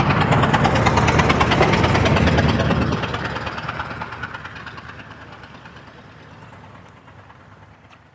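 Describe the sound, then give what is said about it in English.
A truck engine rumbles loudly with a rough, pulsing, unhealthy-sounding idle, heard on a morning walk, then fades and recedes over the last several seconds as it moves away. No one speaks. “A truck.”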